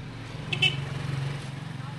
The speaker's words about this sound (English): This is Agadez, the regional capital of northern Niger and the gateway to the desert. Motorbikes buzz up and down the streets of the ancient sandy town.